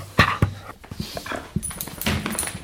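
A dog named Ron pants in quick, breathy bursts mixed with wet, smacking licks as he licks someone in greeting on their return home, the sounds coming in an irregular rhythm of short, soft pulses with no voices.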